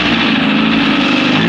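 A sports car engine roars loudly and steadily, revving up as it accelerates away in pursuit of a small scooter, with a dense continuous growl filling the short moment and no voices present.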